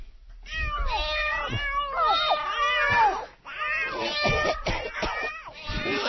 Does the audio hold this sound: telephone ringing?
no